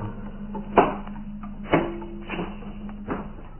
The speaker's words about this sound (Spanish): El hombre increíble quita los pesados cerrojos y la gruesa tranca que cierra herméticamente la puerta.